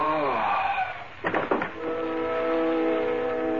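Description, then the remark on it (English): A train horn blares in long, steady tones, broken midway by a couple of sharp metallic clanks from the rail cars, then sounds again as the train begins moving. “You've got 3 minutes before the train starts.”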